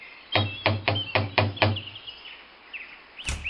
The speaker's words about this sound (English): After getting the dishes done, I got in my van and made the drive to the cabin. Pulling into the driveway, I got out, walked to the door, and knocked.